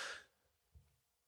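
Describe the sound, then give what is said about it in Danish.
A dog snores quietly: a soft, breathy exhale, then a brief, low snorting rumble a moment later, with no voices around it. “Hvis nogen var i tvivl om, hvad den lyd var, så er det, fordi jeg passer en hund. Hunden, der snorker.”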